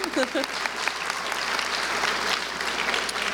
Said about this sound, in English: So we got to give him a round of applause.